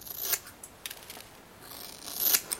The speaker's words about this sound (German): Warum schneidest du dir die Haare ab, Mama?